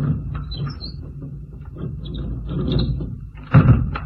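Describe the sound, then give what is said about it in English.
A heavy bed is pulled back into place across the floor, a steady low grinding scrape lasting about four seconds that ends with a louder bump. No one speaks. “Better pull the bed back where it was.”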